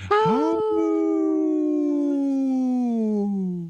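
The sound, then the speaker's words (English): A woman imitates a wolf howl: one long, loud, sustained note that starts with a quick rise, then slowly glides downward over a few seconds before fading out. No one speaks. “was muted during her howl.”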